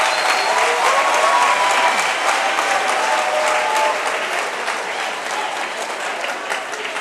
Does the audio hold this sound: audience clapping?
yes